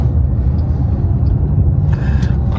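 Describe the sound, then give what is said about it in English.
A car rolls along a road past a four-person side-by-side UTV that is being backed in at the roadside, partly in the road. A loud, steady low rumble of engine and tire noise, a few faint higher rattles rising near the end, with no one speaking. “The guy was backing it in, kind of like a display on the side of the road, but he was a little bit in the road and the car didn't exactly want to stop.”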